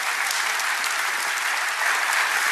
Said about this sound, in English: And you know, you can applaud. It's okay.